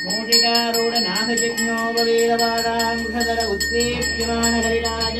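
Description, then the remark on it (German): A priest rings a small hand bell in a rapid, steady rhythm while chanting a Sanskrit mantra in a droning, sustained voice, fairly loud throughout, in a Hindu shrine with a Ganesha statue, in a damp, cold, windowless room. “Und der Priester läutet mit einer Glocke und spricht dazu ein Mantra auf Sanskrit.”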